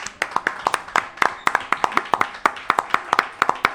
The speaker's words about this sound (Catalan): Un aplaudiment.